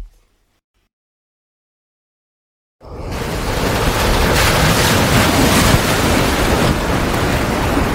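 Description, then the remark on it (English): After nearly three seconds of silence, a loud, steady roar of wind and rough sea surges in and continues unbroken, from a ship tossed in the ocean carrying 100 head of cattle moving violently back and forth. “The moos could be heard, the creaks of wood, whoosh of the wind.”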